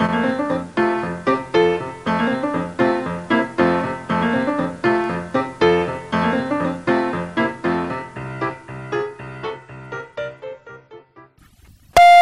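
A short, loud electronic answering machine beep cuts in right at the end after a stretch of gentle instrumental music with rhythmic, plucked-sounding notes.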